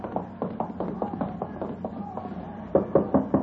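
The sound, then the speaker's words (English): A series of firm knocks on a wooden door around the back of a stand, tapping out a steady rhythm before a louder burst of raps at the end, with a faint hum underneath. “You're knocking the door.”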